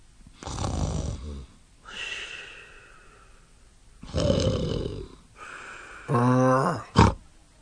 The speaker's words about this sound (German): Da kann ich ja auch schlafen gehen. Morgen sehen wir weiter, wenn der Hahn kräht. Ich schnarche jetzt ein bisschen, ja? Ihr könnt ja einfach weghören.